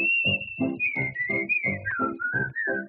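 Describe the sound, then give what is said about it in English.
Someone whistles a bright, steady melody, the pitch gliding smoothly between notes, over a regular rhythmic accompaniment of low, pulsing beats. “Forget your trouble, try to be just like the cheerful chickadee and whistle while you work.”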